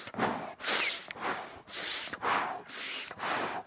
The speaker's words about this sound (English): It's not an exercise. Let's do some breathing exercises.